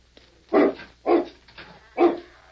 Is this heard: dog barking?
yes